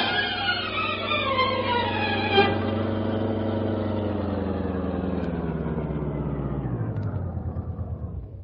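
car engine idling

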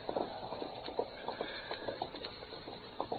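horse hooves clip-clopping

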